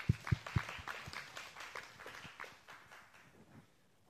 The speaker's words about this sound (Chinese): 阿们的拍手，把荣耀归给神。